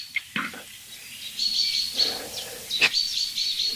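A chaffinch gives sharp, repeated alarm calls near its nest, high bright notes in short bursts with a few broader chirps, against a quiet outdoor background.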